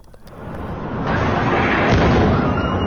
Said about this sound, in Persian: انفجارهایی که شامگاه 10 تیر 2 سال پیش شمال تهران را لرزاند. آتش سوزی در مرکز جراحی محدود سینا مهر شمیران. حریقی هولناک که با انفجار کپسول‌های اکسیژن و هلیوم همراه شد و 19 نفر را به کام مرگ کشید.